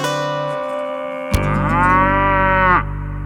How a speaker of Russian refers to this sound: И тут корова подошла задумчиво к нему, и к небу морду подняла и промычала.